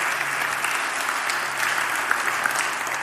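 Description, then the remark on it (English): A church audience applauds Jesus Christ steadily, a dense, even wash of many hands clapping at once with no pauses, holding the same moderate loudness throughout. “Can we give Jesus Christ just a round of applause?”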